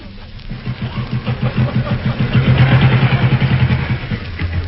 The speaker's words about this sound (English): No, look. There's an AA patrolman coming along. Look, on the motorbike.